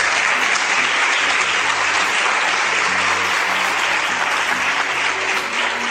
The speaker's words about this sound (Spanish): Yo también aplaudo, ¿eh? Lo que pasa es que no puedo largar el micrófono, pero yo también aplaudo.